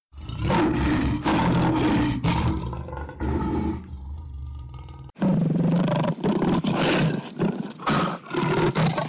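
A lion roars loudly in a series of deep, rough bursts, pausing briefly midway before a second, even more forceful run of roars. No one speaks.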